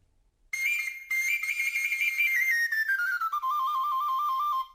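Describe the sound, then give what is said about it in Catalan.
A flabiol, a small Catalan pipe, plays a bright, high-pitched melody alone. After a brief pause, the line descends step by step and ends on a wavering, trill-like figure. “El primer dels tres músics tocava el flabiol.”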